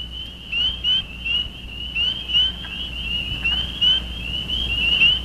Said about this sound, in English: Yeah, that's a great sound, isn't it? It is. Those were mostly spring peepers, the ones that sound like the jingling of sleigh bells, and it was a wood frog calling in the background, as the narrative said.